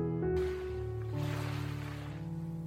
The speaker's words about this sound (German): Und dann nimm für einen Augenblick mal die Wellen wahr. Schau mal, wie sie kommen, und sich ganz langsam wieder zurückziehen.